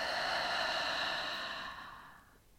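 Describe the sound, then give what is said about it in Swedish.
A slow, breathy exhale through the mouth during a relaxation breathing exercise, a steady airy hiss that lasts about two seconds and gradually fades away. Fairly soft, with no talking. “Och släpp långsamt ut andetaget genom munnen.”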